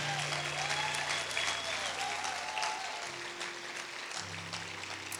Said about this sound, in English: Come on, church, clap for them. Clap for them.